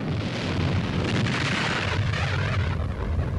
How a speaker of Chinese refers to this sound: 好，打得好啊！一发发炮弹在敌人军舰吉野号的甲板上爆炸。